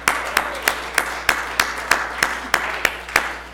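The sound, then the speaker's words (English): Applause for senior students who won a kickball game comes as sharp, evenly spaced claps, roughly a dozen at a steady, quick beat, with no voices over them. “So let's give them a round of applause that they know how to play kickball.”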